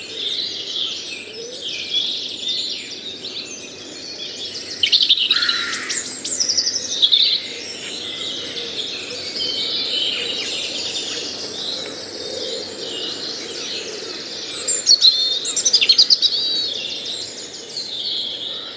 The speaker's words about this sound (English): These birds will keep singing as part of the dawn chorus right up to June. We will leave you with the birds of the dawn chorus from Kuskany Marsh Nature Reserve here in Cove.